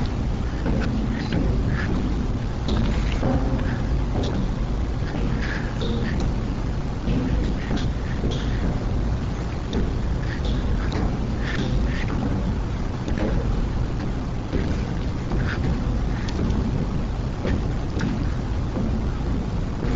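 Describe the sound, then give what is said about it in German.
Dull, muffled thuds recur irregularly throughout, booming over a dense, continuous low rumble like wind or thunder. They are the echoes of Bush's voice in the White House, left after Matt Rogalski's software removed the voice from a roughly 13-minute speech. No clear words are audible. “Die dumpf schlagenden Geräusche, die man hört, manche nennen sie Trommeln des Krieges, sind die Echos von Bushs Stimme im Weißen Haus.”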